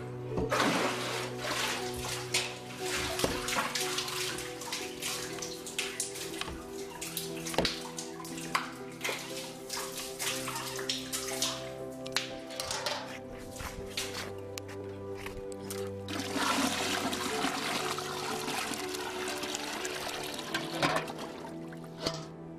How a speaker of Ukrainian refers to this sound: Снова починаю доставать воду.